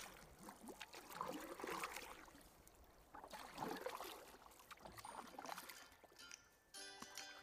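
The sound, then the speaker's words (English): Oars splash and swish through water in a steady rhythm of strokes as Jesus rows a boat off to a different region, with a gentle ongoing slosh between them, moderately loud, before a faint musical tone enters at the end. “After sending away the crowds, Jesus got into the boat and rowed off to a different region.”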